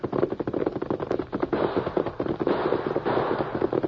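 gunshots

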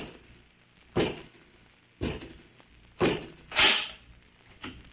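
door being opened

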